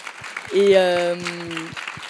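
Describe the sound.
An audience at an event applauds the organizers, clapping in a steady patter while a voice lets out a long, sustained cheer over the middle of the applause, which keeps going softly afterward.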